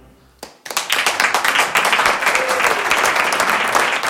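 Applause from an audience for a visiting singer presenting his record bursts in after a brief quiet moment, a dense, steady wash of many hands clapping that stays loud and continuous to the end.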